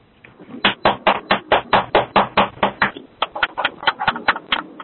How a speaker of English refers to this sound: That was me clapping while driving at 65 miles an hour over an interchange.